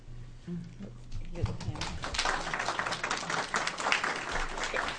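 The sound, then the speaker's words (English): An audience at a committee meeting breaks into steady applause after a brief stretch of speech. Many hands clap in a dense, even patter that holds at a moderate level until the end. “In the interest of time, I would prefer that you not clap.”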